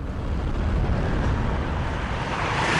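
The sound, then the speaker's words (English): A Tesla electric car accelerating at full throttle as the driver puts his foot down, a loud, steady roar of rushing wind and road noise with a brightening high whine that builds toward the end, with no talking. “So, one of the great things about electric cars is that all of the power is available just as soon as you put your foot down, and there is no better car here today to test that.”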